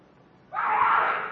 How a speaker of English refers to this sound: I head for the scream.